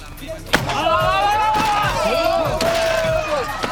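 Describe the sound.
A chair is smashed against the floor in four heavy, splintering crashes spaced about a second apart, loud, while a voice shouts continuously over the blows.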